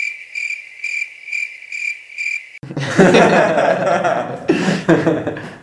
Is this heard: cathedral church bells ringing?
no